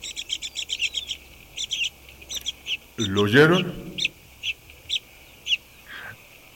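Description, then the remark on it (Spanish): A bird trills in quick, high-pitched bursts, repeating in short rhythmic runs throughout; a brief spoken question interrupts midway before the trilling resumes. “No sé si alcanzan a escuchar ese trino.”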